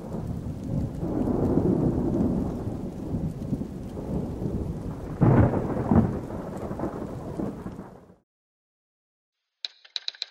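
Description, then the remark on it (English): Low, rolling thunder rumbles at a distance over steady heavy rain, swelling briefly midway before cutting off into silence, followed by a few faint clicks. “Distant thunder rumbled as she burrowed deeper under the sheets.”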